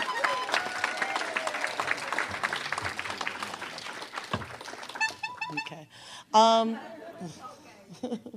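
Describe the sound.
An audience breaks into dense, steady applause for about four seconds before it fades out, followed by a few brief tonal bursts and voices.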